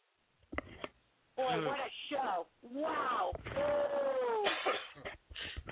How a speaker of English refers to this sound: I hear my cats are knocking at the door. I gotta go.